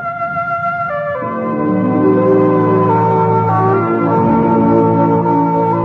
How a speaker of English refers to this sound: So make a date to keep your dial set where you hear the familiar NBC chimes. Your invitation to the best in radio programming.